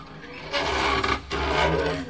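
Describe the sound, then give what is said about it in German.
The door to a dining hall creaks open in two long, raspy groans with a brief break between them, loud and grinding over a low rumbling undertone. “Jemand sollte sich mal dieser Tür erbarmen.”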